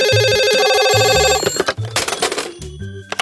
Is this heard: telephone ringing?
yes